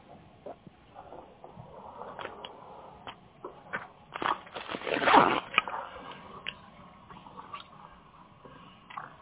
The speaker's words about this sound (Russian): Сейчас я ручки достану минутку.